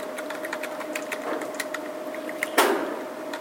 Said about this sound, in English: As you'll see, wait a minute, let me finish typing this.